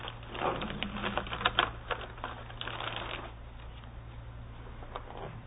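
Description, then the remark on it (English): Quick, scratchy squeaks of a Crayola colored marker dragged across a whiteboard as a lecturer writes up an example, a burst of short strokes that tapers into quieter scribbles over a steady low hum. “Let me actually put something up on the board here.”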